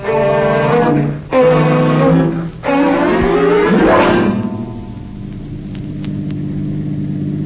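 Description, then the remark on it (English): A car engine drives along down the street, its loud hum rising in three surges as it works through the gears, then easing into a steadier, quieter rumble. No one speaks. “You drive, fella. I'll sit in back with this gat.”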